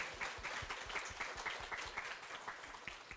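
A crowd applauds a young boy steadily, many hands clapping in a dense, continuous patter at an even level for the whole stretch, with no voices standing out.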